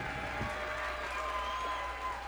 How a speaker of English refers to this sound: Thank you for clapping. It's so nice when people clap at your shows.